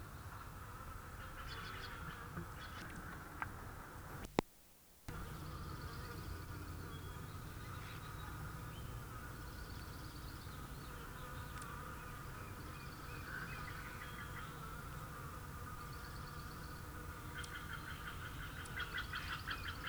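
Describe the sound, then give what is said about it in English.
A male Allen's hummingbird's wings whir in flight at a Nicotiana tomentosa plant at the University of California Botanical Garden. The steady, insect-like buzz runs nearly the whole time, broken only by a brief silent gap early on, with no voices. “Flight sound, Cilastro. Male Allen Onicotiana tomentosa, number one.”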